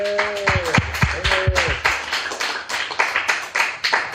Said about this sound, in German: Ihr wart ganz toll. Vielen Dank. Bitte einmal Applaus für die Engel.